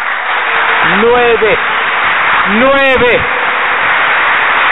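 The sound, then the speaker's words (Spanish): A crowd claps for nine people who are to be baptized that night, in a steady, dense wash of applause, with a couple of voices rising briefly above it, calling out in drawn, sliding tones. “Merece un aplauso.”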